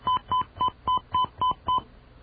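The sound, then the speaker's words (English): A quick sequence of seven phone keypad tones, each a short steady beep, evenly spaced as a password is punched in on a touch-tone phone to access a phone mail system, with no talking. “Okay, she's just asked us to enter our password, so we'll do that.”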